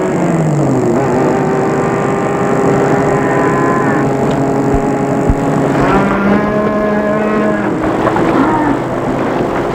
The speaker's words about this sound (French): Bloqués comme les autres automobilistes par des milliers de vaches sur l'autoroute.